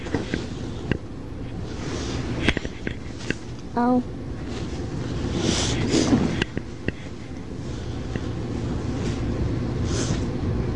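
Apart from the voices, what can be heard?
clothes dryer running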